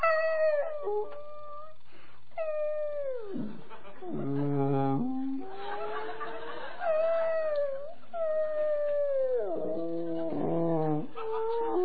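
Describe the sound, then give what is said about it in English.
A series of eerie whale calls: long moaning tones that bend and glide downward, broken up by low pulsing grunts, fairly loud and continuous with no talking. “He's got a pencil, and he deciphers the whale noises as he hears them.”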